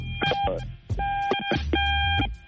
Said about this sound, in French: je pense que ton téléphone là, ça vient.